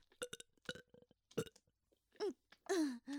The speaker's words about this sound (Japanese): そんなについたら、ちょ待って。やっぱすごいの出ちゃった。サキュバスなのに汚いゲップ。